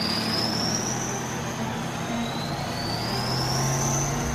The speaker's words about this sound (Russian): После того, как боеприпасы загрузили в автомат заряжания, за рычаги танка садится механик-водитель, запускает двигатель и выдвигается на исходный рубеж.